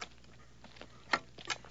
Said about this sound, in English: But over the course of the better part of a day, by adding the Treadwell droid, which is the droid that Luke is working with, his voice, his movements. Working on the moisture evaporator, Luke's footsteps,